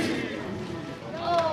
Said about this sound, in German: Applaus! Der neue Familienwagen von der SBB ist enthüllt.